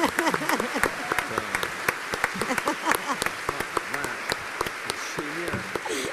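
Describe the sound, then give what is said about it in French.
An audience applauds steadily throughout, a dense patter of many hands clapping at once, with voices talking and exclaiming over the applause. “T'as tout donné et pour ça, on peut t'applaudir,”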